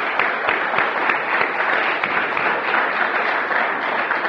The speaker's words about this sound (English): So let's give them one last round of applause.